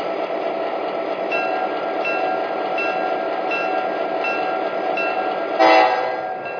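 The Coast Daylight passenger train, number 98 to San Francisco, rumbles steadily on track one at a station, with sustained horn tones sounding over the noise and a brief louder burst near the end. No voices are heard.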